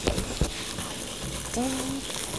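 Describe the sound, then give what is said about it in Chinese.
Adhesive tape is pulled off in short crackling, ripping bursts near the start, over a steady background hiss. A brief voiced sound follows toward the end. “做乜掹塊膠紙啊？”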